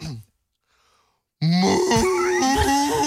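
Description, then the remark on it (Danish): A man imitates a cow's moo with a loud, drawn-out, low voiced groan lasting over a second, following a brief pause after a short vocal sound. “Ja, det var dig, der det var fordi, jeg sagde et eller andet, vores producer sagde, at det lød fuldstændig som en ko.”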